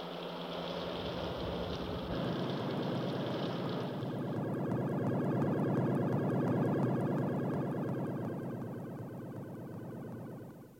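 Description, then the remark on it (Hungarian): A craft comes in to land with a loud, steady engine roar. A bright hiss drops away after a few seconds, leaving a dense, throbbing low rumble that eases off at the end. “Úgy tetted le a gépet, hogy észre se lehetett venni.”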